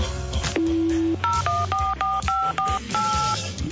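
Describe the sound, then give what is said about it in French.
A long single tone followed by a quick series of paired keypad beeps, about seven presses in an uneven rhythm, as a number is dialed on a mobile phone over a low background hum. “Vite mon portable !”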